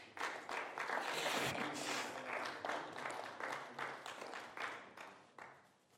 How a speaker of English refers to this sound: Give the Lord a hand clap of praise, please.